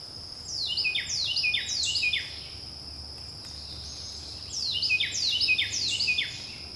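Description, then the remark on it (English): A Carolina wren, a little brown bird that lives in Louisiana year-round, sings two loud bursts of rapidly repeated, downward-sweeping whistled phrases, separated by a short pause, over a steady high insect drone. “So a bird that lives in Louisiana year-round that people are likely hearing right now are their Carolina wrens.”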